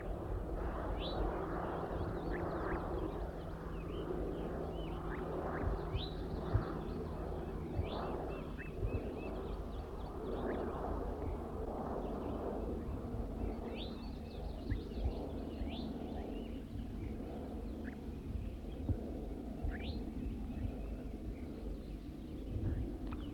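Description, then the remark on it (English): Scattered high, thin calls of a wild bird repeat at irregular intervals, short chirps and sweeping zezer notes sitting over a steady low rumble of wind-like background noise. “Recording the wild bird a little bit louder now.”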